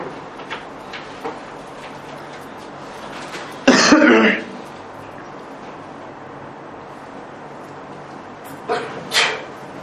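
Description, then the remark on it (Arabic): A single sudden sneeze bursts out loudly, a harsh, noisy blast lasting about half a second against a quiet background, followed later by a couple of faint, brief sniffs. “يا رحمك الله.”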